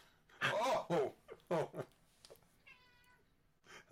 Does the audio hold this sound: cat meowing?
yes